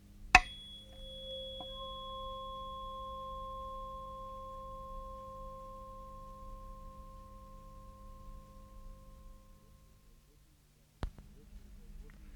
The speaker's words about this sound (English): This is a tuning fork, and the tune is C.